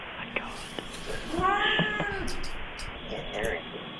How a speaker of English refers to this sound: I'm hearing a cat. Oh, my goodness. There's a cat in your room? I think it sounds like a cat. But it's in one of my pockets.